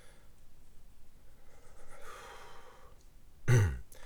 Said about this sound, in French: Attends, je prends une respiration.